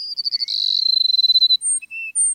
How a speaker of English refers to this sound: The sun rising over a South Texas grassland finds a flock of sparrows, like these Cassin sparrows we're hearing, perching atop a mesquite bush. They're awaiting the sun's first warming rays.